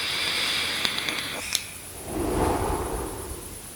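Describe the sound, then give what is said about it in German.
A few small, sharp clicks, then a soft, airy hiss as a puff is drawn from an e-cigarette and breathed out, lasting about a second and a half, with no talking. “Ja, apropos Zug an der Dampfe, dann muss ich noch tatsächlich mal kurz einen Zug nehmen.”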